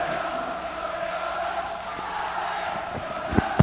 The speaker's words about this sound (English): The Cubs have won the game. It's 4-3. The crowd is going crazy. It's pandemonium. Holy cow! Crowd's going still wild, aren't they?